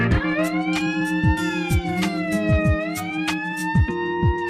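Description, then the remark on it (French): A loud, continuous alarm siren wails with a slowly rising and falling pitch, accompanied by steady low tones and repeated short swooping pulses, with no voices present. “Bonjour, nous pourrions chaque semaine débuter l'émission par cette sirène pour vous alerter sur la gravité de l'état du monde.”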